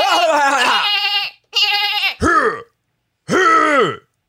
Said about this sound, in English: Let me just clear my throat here.